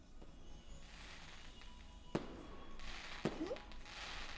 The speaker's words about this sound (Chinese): 什么声音？烟花！哇，真的有人在放烟花哎，好漂亮啊！